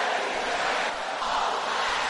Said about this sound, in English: This is a serious prayer. Can I hear the sisters shouting this loud?